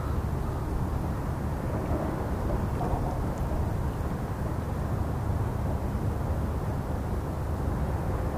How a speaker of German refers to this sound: Da sind Möwen zu hören. Wo die sind, ist oft ein Hafen nicht weit. Da sind Leute. Es ist windig und das weht uns Stadtlärm herüber. Verkehrslärm. Wir sind am Strehler Sund in Alte Fähr im September und der Verkehrslärm kommt von der Rügenbrücke.